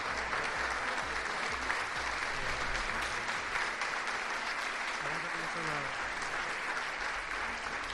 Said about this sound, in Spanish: Está llorando Leo Messi ahora mismo. Ya se ha quitado la mascarilla. Está emocionado. Aplausos en el auditorio.